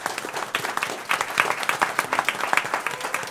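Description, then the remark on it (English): A crowd gives a round of applause to Calm Before the Storm and everyone who helped set up the event, many hands clapping in a dense, continuous patter with small rising bursts, at moderate volume with no voices on top. “I think everyone should give a round of applause to Calm Before the Storm, everyone who helped set this up, working behind the scenes.”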